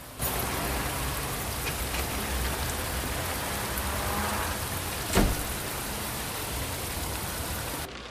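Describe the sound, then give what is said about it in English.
Steady rain falls in a continuous, even hiss with dense patter throughout, with one brief sharper splash or knock near the end. No voices. “She gets out of the car and runs through the rain to some steps that lead up to a house with a glass-panelled front door.”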